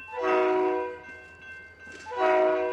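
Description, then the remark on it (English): A train on the rail line through the town of Bellingham sounds two loud, sustained horn blasts separated by a short pause, over a steady low rumble of the passing train. No one speaks. “At the moment, the train line through town is usually a minor inconvenience, a throwback to the days when Bellingham was an industrial town.”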